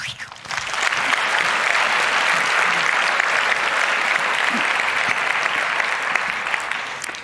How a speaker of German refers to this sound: Ich bin gespannt, gebt ihr Applaus und bis gleich.